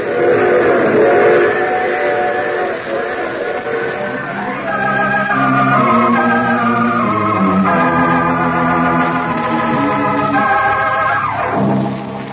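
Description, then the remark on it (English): A train rumbles steadily along as its whistle sounds in long, loud, sustained blasts that shift in pitch before cutting off near the end; no one speaks. “You see, I take the same train every week at this time.”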